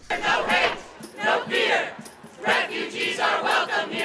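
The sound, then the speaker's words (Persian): A protest crowd at the gates of the White House, on the second day of protests against President Trump's executive order barring entry to citizens of seven countries, shouts slogans in loud, rhythmic bursts, many voices chanting together in repeated phrases with brief lulls between each call. “فریادهای مردم امرا با شعارهای مختلفی که هم می کردن، همه یک پیام را به امرا داشت.”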